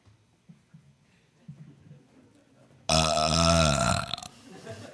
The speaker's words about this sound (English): I don't think it's very nice to burp the baby Jesus